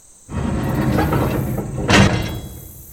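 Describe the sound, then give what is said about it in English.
A heavy prison door rumbles along its track for over a second, then shuts with a loud metallic clang that rings briefly before fading. No voices. “As he stepped across the threshold, the guards said their goodbyes. The door shut.”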